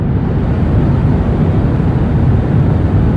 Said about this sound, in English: Turns out that the 80 or so decibels of white noise that are pounding your ears from the jet's engines, they reduce your ability to taste salt, reduce your ability to taste sweet, and increase your ability to detect and enjoy umami.